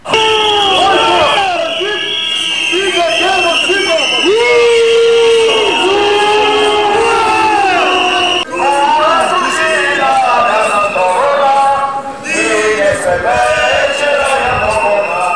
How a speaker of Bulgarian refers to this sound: С викове Бойко бандит, стига геноцид, стотина души от Пловдив се включиха в протест с нацлов народен марш срещу безобразията в България. Чуйте кратка звукова картина от протест.